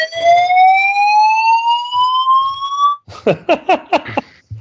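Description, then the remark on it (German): A fire alarm in New Zealand sounds loud and alone: a harsh electronic tone slides slowly upward for about three seconds, then breaks into a quick run of roughly seven pulsing, buzzy blasts. “Feueralarm in Neuseeland.”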